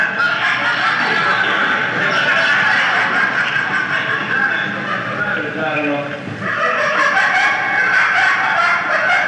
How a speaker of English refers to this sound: let's see what we have here. We got a bunch of birds.